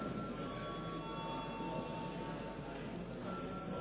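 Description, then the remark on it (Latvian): A parliament chairman's bell rings before a vote on a bill amending the value added tax law, a steady sustained metallic tone with bright high overtones lasting the whole time over a low background murmur. “Lūdzu zvanu.”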